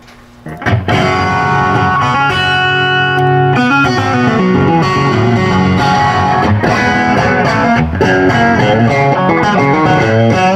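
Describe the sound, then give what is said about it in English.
A Stratocaster electric guitar, plugged straight into an amp with no reverb, plays loud, sustained chords and single notes with a dry, slightly gritty tone, continuing steadily for about ten seconds with no voices. “I mean, is that's that a just Strat. Straight that's into straight it? In. Wow, that's killer.”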